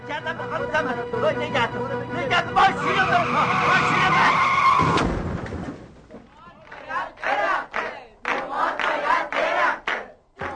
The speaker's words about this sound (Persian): صفا آویزون گردن راننده میشه، مأمور دیگه سعی میکنه جداش کنه و نگهش داره. صفا ولکن نیست، ماشین هی داره قیقاج میره.